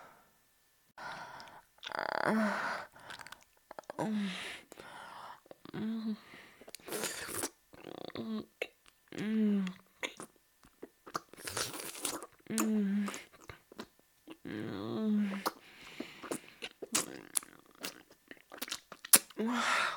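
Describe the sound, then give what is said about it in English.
Wet chewing and crunching continue throughout, with frequent loud bites and smacks. A voice mumbles through a full mouth between the chews, muffled and hard to make out. “I can talk with my mouth full.”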